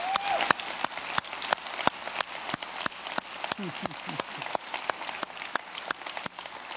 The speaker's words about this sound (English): So one more time, we're going to do it again. We already did it twice. Clap for these moms in here, would you please? That's right.